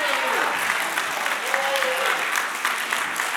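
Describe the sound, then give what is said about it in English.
A church audience bursts into steady, loud applause as a clap offering to God, many hands clapping densely together with a few voices calling out beneath the sound. “Can somebody give God a clap offering right there?”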